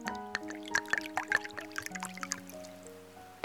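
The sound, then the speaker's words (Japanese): Wine is poured from a bottle into another person's glass in a short, gurgling stream, with bright splashes and rising glassy ringing tones as it fills, fairly quiet, with no voices. “貸せよ、手酌はなしだろ。”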